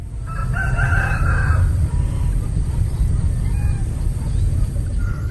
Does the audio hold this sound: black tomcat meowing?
no